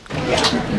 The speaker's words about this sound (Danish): Det er døren, der går op. Haren kommer ind. Haren kommer ind.